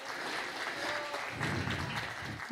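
An audience applauds a man who accepted Jesus Christ that morning, a dense, steady wash of many hands clapping that holds at an even, moderate loudness throughout, with no voices over it.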